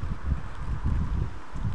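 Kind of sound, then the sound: nature, strong wind blowing outdoors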